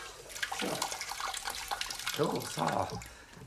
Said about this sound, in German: Viel Wasser, überall viel Wasser. So, das ist genug. Jetzt Wasserhahn zu.